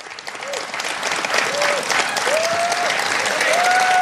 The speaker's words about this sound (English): Yeah, the applause went on for a while, as did the president.